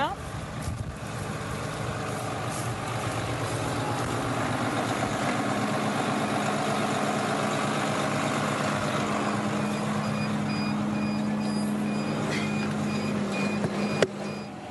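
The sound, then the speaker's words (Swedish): A tractor engine runs steadily for the whole stretch, a loud, even diesel drone with a deep rumbling hum, ending with a brief clunk near the finish. “Så då ska vi hoppa in i traktorn.”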